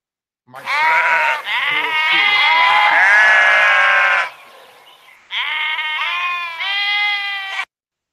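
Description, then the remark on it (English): A loud sheep bleating sound effect in long wavering cries, two drawn-out bursts separated by a brief pause, with no talking alongside. “He got the motherfucking sheep sound by night that he doing some big shit.”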